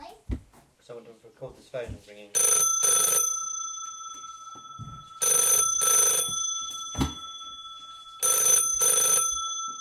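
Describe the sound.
A telephone bell rings in three loud double bursts, each pair of rings separated by a pause, with a child's voice speaking briefly at the start and between rings.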